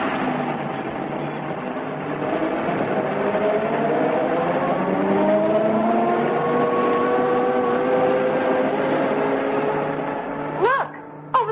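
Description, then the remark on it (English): An open truck's engine drones steadily, its pitch rising and shifting as it carries a game-spotting party along a bumpy trail in the bush, with a couple of sharp knocks and rattles near the end. “Wrapped in sweaters, the party clambered onto the open truck and drove off.”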